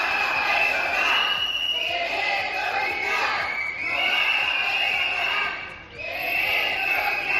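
A crowd of hospital health workers, protesting staff cuts in the internal medicine ward, chants slogans demanding more staff in loud, rhythmic unison, the shouted phrases rising and falling in repeated waves with brief dips between them.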